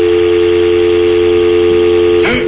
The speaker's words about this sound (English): Dialing it up now. It's the Johnny U hotline.